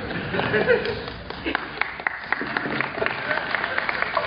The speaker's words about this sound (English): All I gotta do to get you to clap is just mention the Packers. It's an easy trick.